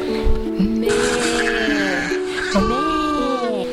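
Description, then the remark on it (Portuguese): Several sheep bleat loudly and close by, their wavering, overlapping calls running almost continuously for a few seconds, with a brief dip before a fresh chorus of bleats. “As ovelhas não deixarão que Gaspar abra a porta.”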